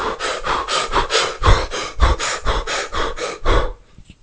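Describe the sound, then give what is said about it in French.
Quick, shallow breaths repeat in a steady rapid rhythm as a breathing demonstration, about a dozen short airy huffs, with no talking, then fade out. “Et de faire ça, tu vas rapidement te retrouver essoufflé, un peu ralenti, un peu vaseux, un peu mou, tu vois.”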